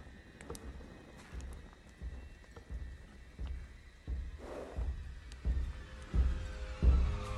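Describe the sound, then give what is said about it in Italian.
Horse hooves clip-clop at a slow, steady walking pace, each dull thud growing a little louder as the animal draws closer, over a faint, steady background hiss. “C'è qualcuno qui intorno. Sarà uno dei cavalli rubati.”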